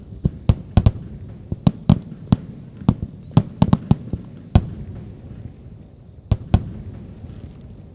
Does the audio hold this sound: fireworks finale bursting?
yes